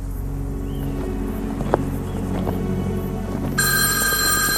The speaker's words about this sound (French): Le téléphone sonne et sonne et sonne et sonne.